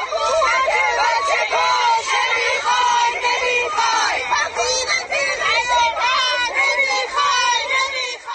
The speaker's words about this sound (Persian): این هم گوشه ای از فریادهای اعتراضی مردم مقابل ساختمان آموزش و پرورش منطقه 2.